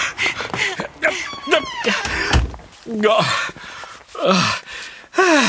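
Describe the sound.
A door that turns out not to be a pass-through door opens and shuts in the dark with a single dull thud partway through, while people talk around it in hushed, excited voices.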